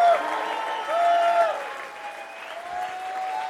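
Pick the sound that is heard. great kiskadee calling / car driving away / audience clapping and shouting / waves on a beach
audience clapping and shouting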